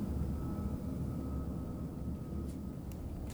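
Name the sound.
airplane flying overhead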